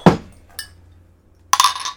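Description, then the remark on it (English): Glasses of bourbon barrel stout clink together in a toast: a sharp tap, a lighter second touch, then a brighter clink that rings on briefly. The sounds are clear, with no talking. “Cheers. Cheers.”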